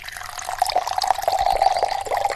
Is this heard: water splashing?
yes